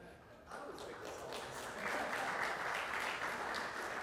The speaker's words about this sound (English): Y'all are clapping